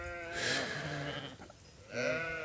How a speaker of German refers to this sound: Jetzt haben wir hier den Zaun beiseite gemacht und jetzt kommen die Schafe alle auf mich zu. Jetzt kommen die alle hierher und der Schäfer ruft mal mit einem schönen Pfeifen. Sie sind schon interessiert, ne, die Schafe?